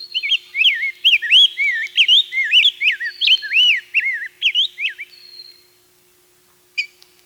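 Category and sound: bird, rose-breasted grosbeak song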